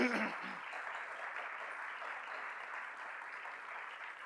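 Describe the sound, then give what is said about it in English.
A crowd applauds steadily for a woman being thanked for her hard work putting the event together, a dense wash of many hands clapping at an even level throughout, with a brief voice-like burst at the very start. “And give her a round of applause, I think.”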